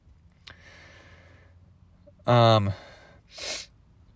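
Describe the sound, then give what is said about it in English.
A loud, voiced snort-like burst lasting about half a second, followed a moment later by a single short, breathy sniff; a faint click comes earlier over a low background hum. “I know I sniff a lot.”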